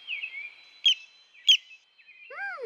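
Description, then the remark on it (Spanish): Several birds chirp and trill in a quiet forest, with two sharp louder calls standing out, followed by a run of rising, curving whistled notes at the end. “Cuando guardo silencio, puedo escuchar al bosque. ¡Qué bonito suena! Puedo oírlo todo. El arroyo, el viento, las abejas, las aves.”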